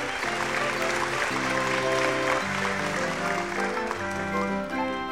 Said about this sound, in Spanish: Toda la corte que estaba reunida en el salón del trono para oír el relato del pequeño sastre prorrumpió en un clamoroso aplauso.